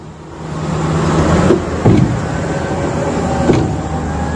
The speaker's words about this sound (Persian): از این لودرهای کوچک گرفته تا این بولدوزرهای عریض و طویل و کامیونهایی که از استانهای مختلف راهی پل دختر شدند، همه روزانه بارها خیابان